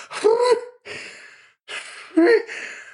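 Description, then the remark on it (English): Two sneezes in a row, brought on by pollen or dust in the room, each a sharp voiced gasp followed by a loud, hissing breathy burst, with a short quiet gap between them and no talking. “I don't know what it is, but it's making me sneeze.”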